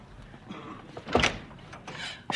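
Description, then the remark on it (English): A few solid knocks land on a door at uneven intervals, the loudest in the middle and another sharp rap at the end, with no voices. “I hear a knock on the door now.”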